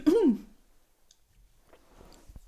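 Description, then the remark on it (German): A single short, voiced cough bursts out loudly at the start, then quiet follows with faint clicks and soft rustling. “Oh, jetzt muss ich doch husten, oder wie?”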